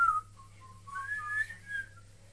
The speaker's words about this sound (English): You're whistling away. I whistle a happy tune.